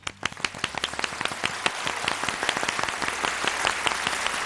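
An audience breaks into applause for the Playa de las Catedrales beach in Galicia, Spain, as 'the applause of the day'. A few sharp separate claps quickly build into dense, steady clapping from many hands, sustained at an even level without speech.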